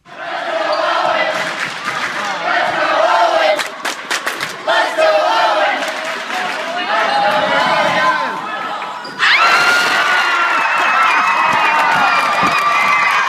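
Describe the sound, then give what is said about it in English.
A loud crowd at a school basketball game at Van Hoosen Junior High outside Detroit cheers and shouts continuously as an eighth grader with Down syndrome sinks three-pointers, with sharp ball bounces and squeaks, then the roar swells even louder near the end. “A very happy crowd you can hear at the Van Hoosen Junior High outside of Detroit there just last week.”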